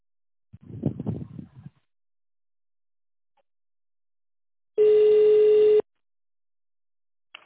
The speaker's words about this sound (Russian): нажмите 0 и оставьте сообщение после сигнала.